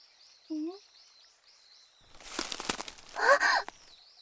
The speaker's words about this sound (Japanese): けれど、今日はやけに鳥が騒いでいるような気がします。一体どうして？